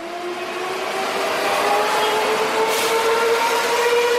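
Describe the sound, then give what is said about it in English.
An electric Medellín Metro train hums steadily, its motor whine rising slightly in pitch as it picks up speed over a constant rumble of rolling noise. The sound is fairly loud and continuous, with no voices. “And if I can offer one word of life advice, it is to find someone who looks at you like a paisa looks at their metro.”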